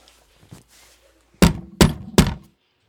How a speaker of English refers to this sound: That day, when Captain Van Tock knocked on the door.